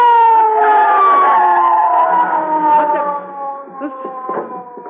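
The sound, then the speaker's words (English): A loud police siren wails steadily, its tone slowly sliding downward over several seconds, with faint rumbling and clatter underneath toward the end. “I hear a siren. Oh, so do I. It's the police”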